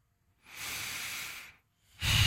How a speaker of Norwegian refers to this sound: Finn pusten din. Finn en rolig og behagelig rytme I pusten din.